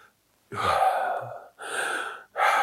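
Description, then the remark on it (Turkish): Three quick, sharp breaths drawn in fast, each a loud noisy rush of air, the first longest, separated by brief pauses with no talking. “Dediğimiz bir nefes. Ben bunu hızlı aldığım için şimdi böyle gürültü yapıyor.”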